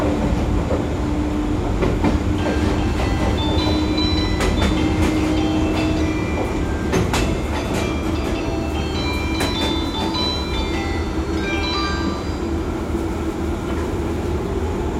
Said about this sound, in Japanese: ここでただいま乗車中の185系電車をご紹介いたします。185系は老朽化した1号3系、153系、9号7電車の置き換えを目的に、今からちょうど41年前の1981年3月26日東海道線の普通